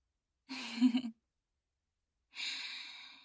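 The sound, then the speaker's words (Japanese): Two heavy breaths with a pause between: first a short, partly voiced exhale like a sigh, then a longer airy breath from someone out of breath and tired. No speech. “息切れしてるけど疲れちゃった？”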